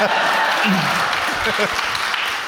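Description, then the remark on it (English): An audience claps after a hat tip, a dense, even wash of many hands that holds its level throughout, with a few voices faintly audible underneath. “All right, you can't use that tipping your hat thing to get applause anymore.”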